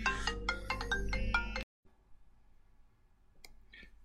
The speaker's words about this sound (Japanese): あら、電話来ちゃった。